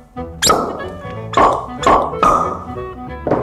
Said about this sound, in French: Ça fait toujours plaisir quand on a le bouchon qui saute. C'est déjà le début de la dégustation.